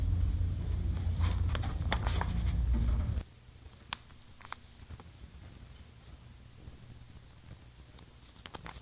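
Horse hooves clip-clop in scattered, uneven knocks as a rider rides in a rainstorm, first over a heavy rumbling wash of noise that cuts off after about three seconds, then continuing sparsely against a quieter background.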